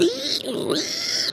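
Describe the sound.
A person practising a creature voice makes a single raspy, nasal pig-like grunt, sustained for over a second at moderate loudness, with no other sounds around it.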